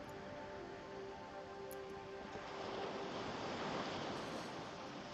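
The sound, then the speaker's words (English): A steady wash of ocean surf, with waves breaking on the shore and a gentle swell rising in the middle before easing back, heard alone without voices. “Breathe the moist, salty air as you place one foot in front of the other, completely mesmerized by the calm and by the sound of the ocean.”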